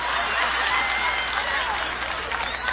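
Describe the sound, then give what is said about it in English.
An audience claps steadily, dense overlapping hand claps forming a loud, continuous wash of applause with no breaks, a few scattered voices mixed in beneath. “Now, a lot of you are clapping.”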